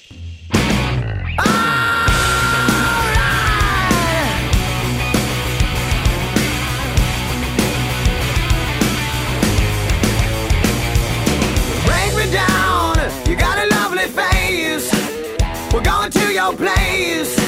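A loud hard rock song plays continuously, with dense, distorted guitar and driving drums filling the whole stretch. It is steady, with no voices, just the full band blasting away.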